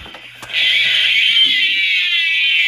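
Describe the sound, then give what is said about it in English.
A bearcat call: after a brief click, a loud, sustained high-pitched wail begins and holds steady, harsh and slightly wavering, continuing without a break to the end. “It's a bear cat.”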